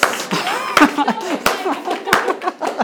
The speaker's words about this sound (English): Could we just real slow clap?